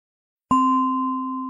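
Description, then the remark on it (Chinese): A single meditation bell is struck after a moment of silence to mark the end of a meditation session, its clear, layered tone ringing on and fading only slightly. The bell is heard alone, with no voices. “当你听到铃声时，可以轻轻地睁开眼睛，花点时间，慢慢有意识地从冥想状态中回来。”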